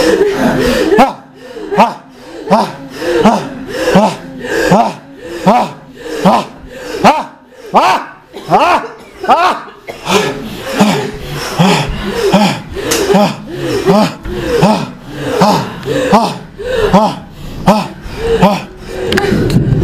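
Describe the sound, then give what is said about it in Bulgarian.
Rapid, forceful breathing in a steady rhythm: loud huffs of air repeating about every second throughout, like a vigorous breathing exercise, with no spoken words. “Мощно дишане.”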